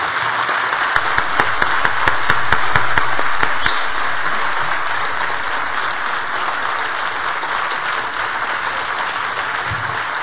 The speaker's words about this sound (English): Let's give Tony and Martin a big round of applause for what they've done for McGill.